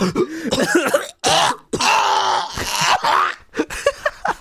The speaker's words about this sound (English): Don't you ever fucking cough while I'm talking.